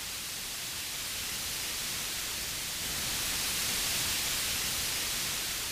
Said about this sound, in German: Also, das weißes Rauschen können wir wirklich nicht mit anfangen, aber Wir könnten behaupten, da steckte irgendwas drin und würden dann wie vorgehen, um das rauszufinden?